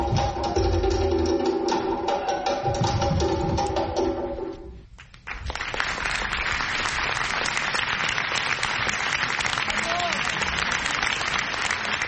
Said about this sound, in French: Acclamés par la foule, Sidi Borro et Salia Sanou sont enthousiastes. Les 2 Burkinabés viennent de présenter leur chorégraphie à Avignon.